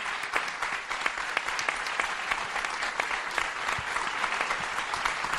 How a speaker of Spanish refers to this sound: y, cómo no, un fortísimo aplauso para